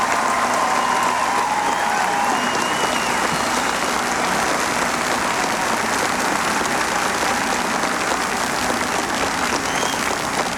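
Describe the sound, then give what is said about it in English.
A large crowd applauds steadily for about ten seconds, a dense, sustained roar of clapping with faint cheers mixed in, loud and unbroken throughout, applauding Senator Dole for his lifetime of service to the United States. “I would like to say a special word of thanks to Senator Dole, and I ask you to join me in applause for his lifetime of service to the United States.”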